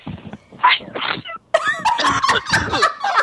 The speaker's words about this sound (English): I'm going to sneeze one more time.